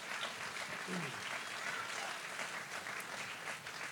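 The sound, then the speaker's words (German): A crowd claps steadily in a dense, continuous burst of applause lasting several seconds, given at the host's request above all for a guest's wife, with a few faint voices mixed in beneath the clapping. “Einmal einen Applaus bitte.”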